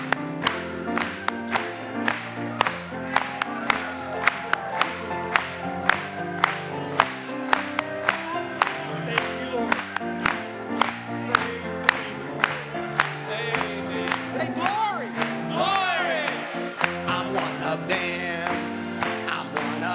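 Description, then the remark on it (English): An audience claps along in the morning in a steady, even beat, sharp rhythmic claps ringing out over sustained music and hymn singing that continue throughout. “Let's clap it to Him this morning.”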